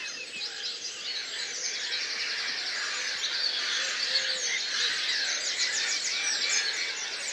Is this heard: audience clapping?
no